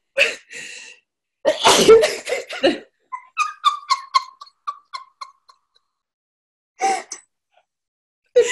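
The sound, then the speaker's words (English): A person sneezes repeatedly, three times: loud bursts one after another, separated by a string of short, squeaky breathy sounds and brief pauses, with one last sneeze near the end. “Just coming back, I just sneezed three times.”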